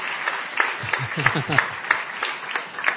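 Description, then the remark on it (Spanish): Light applause with distinct, loosely rhythmic claps, as someone talks briefly underneath partway through. “Un aplauso, señoras, señores.”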